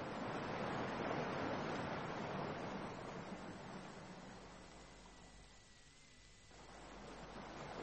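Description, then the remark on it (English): Waves lap against the shore of a strand below in a continuous hissing wash, swelling early on, easing to a softer lull, then building again. No voices are heard. “Barring the shame of the waves as they lick the shore below.”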